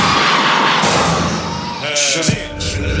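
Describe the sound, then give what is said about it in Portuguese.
A loud crowd of women in the audience shouts and screams together in response to the MC, a dense wall of voices with rising cries that swell over a booming, thumping background. “Agora eu quero ouvir o grito da mulher que é independente e acha que os direitos são iguais.”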